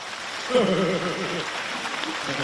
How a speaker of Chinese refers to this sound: 鼓掌